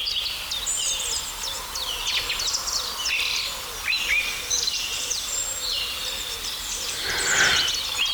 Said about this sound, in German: Ja, die Tauben rufen.